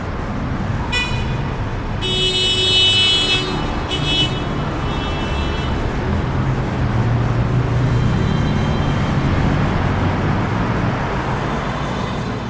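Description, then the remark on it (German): A busy street roars with steady traffic noise of about 70 to 85 decibels, and a car horn of about 85 to 100 decibels honks loudly a few times near the start, sharp bursts over the continuous rumble of passing vehicles. “Straßenlärm hat 70 bis 85 Dezibel.”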